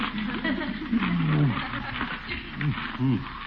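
A cat yowls repeatedly in drawn-out, wavering cries that bend up and down in pitch, one long moan sliding downward, followed by shorter rising and falling wails, fairly loud over a dull hiss.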